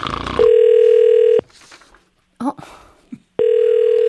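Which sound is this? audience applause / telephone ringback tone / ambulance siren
telephone ringback tone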